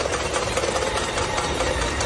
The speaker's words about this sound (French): Ce sont des habitants qui frappent sur des casseroles. Et c'est comme ça, presque chaque soir, aux fenêtres des gratte-ciel de Shanghai. Une manière pour les habitants de manifester leur colère.